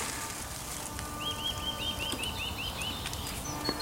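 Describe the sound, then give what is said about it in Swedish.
A bird sings a quick trill of about nine evenly spaced, high, bright notes lasting a couple of seconds, set against a steady background hiss with no one talking. “Ja, fåglarna håller igång.”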